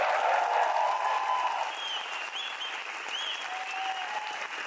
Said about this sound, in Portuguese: Uma salva de palmas para todos vocês que estão aqui.